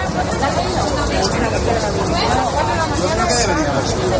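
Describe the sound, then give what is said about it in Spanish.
A steady crowd murmur of queuing train passengers at Madrid's Atocha station, where Madrid–Barcelona high-speed trains are not running after an act of vandalism; many overlapping voices blend into a continuous hubbub with no single speaker standing out, holding an even, fairly loud level throughout. “Donde, como puedes escuchar, ya se están formando colas, quejas y enfados.”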